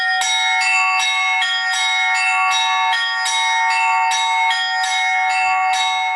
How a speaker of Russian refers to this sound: Сейчас он вновь решил познать азы колокольного звона.